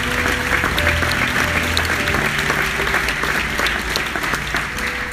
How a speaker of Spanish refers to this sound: Dale ese aplauso a Él, Señor.